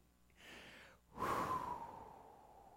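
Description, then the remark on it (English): A voice imitates heavy breathing: a breathy inhale, a brief pause, then a long, louder, rasping exhale that slowly trails off. No words are spoken. “So all night long, God's just breathing really heavy.”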